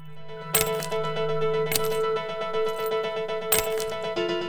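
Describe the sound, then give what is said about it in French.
Keys dropping onto a hard surface, with three sharp metallic clinks spread over a few seconds and a bright jingling ring that lingers between them, fairly clear. “C'est des clés qui tombent.”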